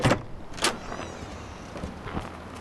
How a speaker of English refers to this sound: And here's the outer door.